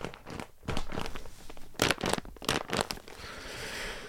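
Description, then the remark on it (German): A plastic bag crinkles and crackles as a wrapped package, estimated at about one kilogram, is squeezed, with irregular bursts of rustling, some sharper crunches in the middle, then a softer steady rustle. “Okay, warte, könnt ihr das hören? Ich drücke jetzt drauf.”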